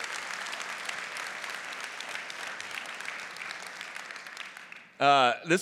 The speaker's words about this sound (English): Can we just send a round of applause and support for Dan and Kristen if they're out there?